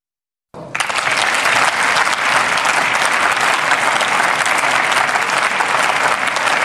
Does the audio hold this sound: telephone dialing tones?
no